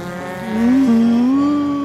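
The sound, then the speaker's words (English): A race car engine howls loudly and steadily at a racetrack, its pitch climbing and bending as it accelerates past, with a strong mechanical whine and no voices. “This layer of the Earth has a robust racing scene. Look out the window.”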